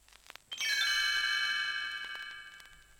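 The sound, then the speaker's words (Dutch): A bright shimmer of Tinker Bell's tinkling little bells, the page-turn cue in a Walt Disney read-along of Treasure Island, rings out after a couple of soft clicks, then lingers and slowly fades over a few seconds. No one speaks. “En telkens als je een bladzijde moet omslaan, laat Rinkelbel haar belletjes rinkelen.”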